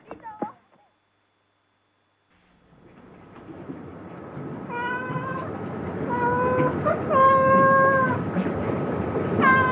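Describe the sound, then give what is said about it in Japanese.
A short meow opens, then after a pause several drawn-out cat meows rise over a steady outdoor rumble, growing louder and repeating toward the end, at Takeura (竹浦) fishing port in Japan, a port with many cats, where three plump cats, a mother and her young, appear. “なぜだか猫の多い港です。”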